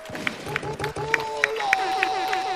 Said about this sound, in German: Damit kommt der Roller weiter. Vielen Dank. Ein Applaus für den Roller.